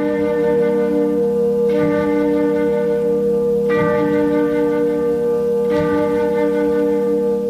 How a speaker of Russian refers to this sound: она быстро рассеивается от колокольного звона лавры. Там лаврские часы целотонную гамму исполняют.